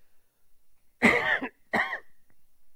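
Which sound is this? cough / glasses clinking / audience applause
cough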